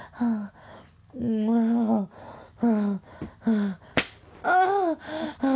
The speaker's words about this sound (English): Yes, spank me just like that while I fucking have his cock in my face.